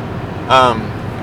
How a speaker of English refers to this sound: I got to be tailgating this guy so that the people behind me can get around him when we hit the passing lane. He's going 70 and a 65.